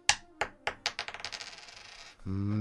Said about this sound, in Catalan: Perfecte, tiro la moneda, el teu tema.